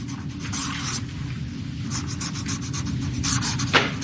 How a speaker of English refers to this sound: Just listen to the sound of that Sharpie moving smoothly across the paper.